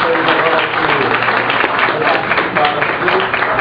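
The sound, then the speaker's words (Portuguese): Steady applause for the head table at a study-cycle session held at an observatory, dense overlapping claps holding at an even loudness for several seconds, with a faint murmur of voices mixed in. “Nossa aplauso da mesa, então.”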